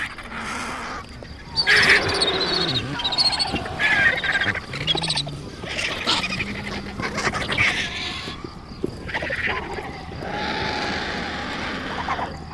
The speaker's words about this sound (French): Il n'y a pas de règles dans ce chaos. Ce sont les plus forts qui commandent presque toujours. Les cris assourdissants augmentent avec l'arrivée de deux vautours noirs.